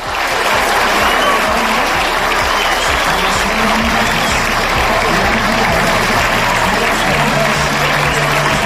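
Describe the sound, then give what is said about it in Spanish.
A large stadium crowd of more than 10,000 fans stands and applauds the firefighting services for several minutes, steadily and loudly. It is a dense, sustained wash of clapping with cheering voices mixed in, continuing without pause from start to finish. “Representando a toda la provincia, los más de 10.000 aficionados que se pusieron en pie para durante varios minutos aplaudir a los servicios de extinción que han participado este verano en la lucha contra los incendios.”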